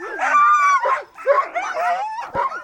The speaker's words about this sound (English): In fact, Greenlandic sled dogs are so important to the culture here that it is illegal to bring in any other kind of dog to many parts of Greenland to protect the breed.